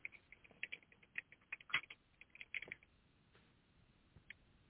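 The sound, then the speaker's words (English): Quiet, irregular clicking of keys being typed on a keyboard, bursts of rapid taps with brief pauses, sounding thin with no voices present. “Somebody typing. I thought it was someone's keys.”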